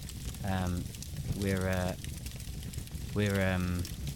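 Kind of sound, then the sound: nature, campfire crackling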